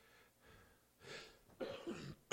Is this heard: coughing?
yes